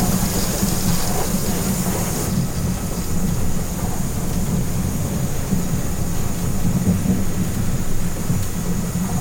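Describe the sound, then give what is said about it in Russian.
A thunderstorm roars steadily, heard from aboard a nearly empty passenger airplane, with dense rain hiss over a constant deep rumble of thunder, loud and enveloping throughout, with no voices. “Наверное, все побоялись из-за бури.”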